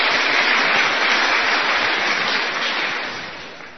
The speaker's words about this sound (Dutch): Ja, een applaus. Ja.